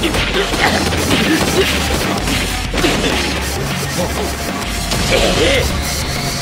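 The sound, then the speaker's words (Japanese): A flurry of hard smacking punches lands in quick succession through gaps in an opponent's guard during a fight, loud, over a dense, noisy roar with faint voices mixed in. “ガードの隙間から的確にパンチが飛び込んできやがる。”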